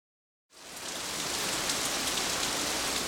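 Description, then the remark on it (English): Heavy storm rain at night begins after a brief silence and settles into a steady, dense hiss of downpour, fairly loud, with no thunder or voices. “At night, the rain continued and there was a bad storm.”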